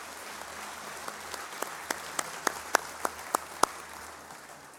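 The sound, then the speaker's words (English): An audience breaks into steady applause for teachers, a dense wash of clapping with one sharp, evenly paced clap standing out above it, swelling slightly before tapering off. No one speaks. “Yeah, we could clap for them.”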